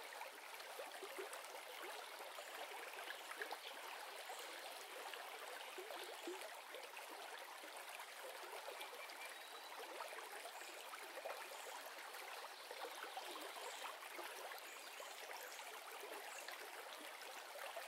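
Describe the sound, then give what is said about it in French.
Steady running water from a river flows between stones continuously for the whole stretch, a dense, even rushing and babbling with no voices over it. “Vous songez que l'eau d'une rivière va toujours dans le même sens, que jamais elle ne change de direction ou ne rebrousse chemin.”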